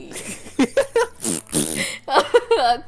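Several loud fart sounds blown with the mouth, sputtering in quick bursts with wobbling, swooping pitch, then a longer rasp and a few more squeaky blasts.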